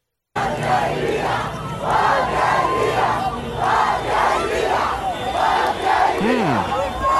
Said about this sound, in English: That was a strange situation in Cuba this weekend, where large groups of people gathered to yell random words in unison.